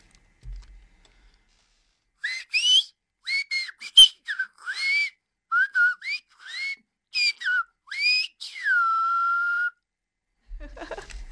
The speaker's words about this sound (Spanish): Venga, vamos a silbar eso.